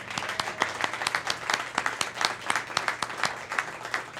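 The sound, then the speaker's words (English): An audience applauds the songwriters after they performed their songs on stage, with dense overlapping clapping sustained steadily at moderate volume and no voices. “And so round of applause for all of our songwriters.”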